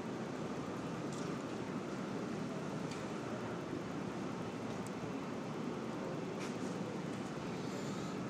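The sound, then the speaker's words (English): A subway train roars steadily through an underground station, a dense, continuous rumble with a few brief high squeals and clicks cutting through. No one speaks. “Unless I wait around for the subway here.”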